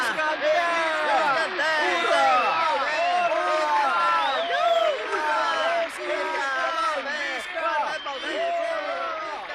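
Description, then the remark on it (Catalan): A large crowd cheers and shouts steadily for the victor of a fight, many voices rising and falling together in loud overlapping whoops and hurrahs, with clapping mixed into the roar. “Tots aquests aplaudiments i tots aquests visques són per tu.”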